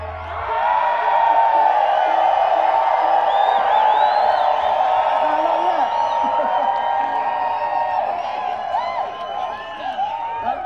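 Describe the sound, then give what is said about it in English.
A large crowd yells, whoops and cheers in a loud, sustained roar that starts abruptly and holds for about ten seconds, with individual shouts rising above the dense wash of voices. “We were hoping maybe y'all'd help us make a lot of noise real quick and we could alert them to the vision that may happen here this afternoon in the next hour.”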